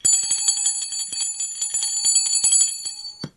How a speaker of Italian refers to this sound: Suona la campana. E allora si svegliano alla metà, no? Dice: che succede? Perché suona la campana? Per chi suona la campana?